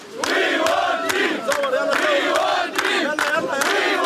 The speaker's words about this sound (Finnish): Poliisiaseman edessä huutaa joukko turhautuneita siirtolaisia, jotka haluavat päästä sisään.